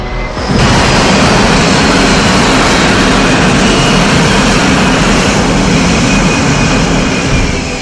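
The Blackbird jet touches down in Midtown, New York, ahead of a police perimeter, with a loud, steady engine roar that swells in abruptly and holds, a thin high-pitched whine riding over the dense rumble throughout.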